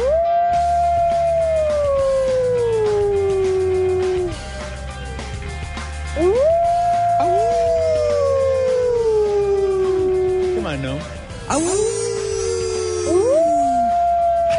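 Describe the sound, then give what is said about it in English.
Coyotes howl in four long, loud cries, each rising sharply then sliding slowly down in pitch, with a low rhythmic background bed underneath and no talking. “Wile E. Coyote. I mean, Manhattan is being overrun by coyotes.”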